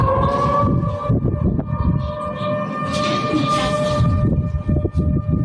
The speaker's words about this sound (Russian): В пятницу после обеда в Оренбурге уже звучали сирены. Началась срочная эвакуация людей. Это связано с тем, что уровень Урала возле Оренбурга превысил 11 метров.